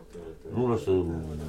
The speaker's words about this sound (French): Oui, c'était les oies, je crois, dans la basse courue.